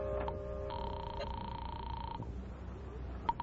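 A telephone being dialed in a telephone booth to call the police department: a few sharp clicks, then a steady electronic tone holding for a second or so, followed by more faint clicks over a low background rumble.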